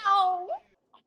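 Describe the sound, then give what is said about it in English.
A single loud, high-pitched squeal from a woman's voice up above, echoing throughout the room, lasting about half a second, its pitch sliding down and then briefly up before cutting off, followed by a faint short blip. “A squeal echoes throughout the room.”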